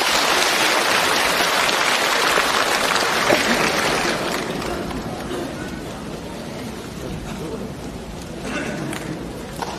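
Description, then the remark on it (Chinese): An audience claps in a dense, steady patter to welcome a speaker from Shenzhen at a gathering of Master Lu's Dharma practitioners, loudest for the first few seconds before easing to a softer, continuing applause, with faint voices mixed in. “请大家掌声欢迎。”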